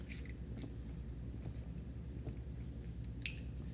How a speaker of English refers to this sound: All right, going to take a quick hydration break here. You got water near you? Drink up, man. Hydrate.